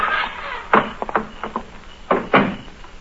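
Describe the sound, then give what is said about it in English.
A house door is pushed shut with a solid thump, a few small latch clicks and rattles, then two more heavy knocks of wood settling into the frame. No one speaks. “Close the door.”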